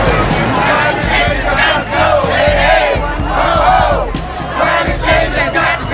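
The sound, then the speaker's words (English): A large crowd at a protest, in a positive rather than angry mood, roars and chants together, many voices overlapping in loud, rising and falling shouts with occasional sharp claps or bangs, sustained throughout. “It's not an angry crowd.”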